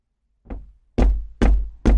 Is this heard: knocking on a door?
yes